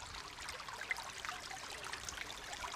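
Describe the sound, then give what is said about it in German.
A brook flowing into a lake babbles steadily, its continuous bright rushing and trickling water sound even throughout, on a surprisingly warm, sunny day, with no voices. “Einmal wollte ich euch kurz auch das Wasser vom Bach spielen. Es läuft nämlich ein Bach hier in den See hinein.”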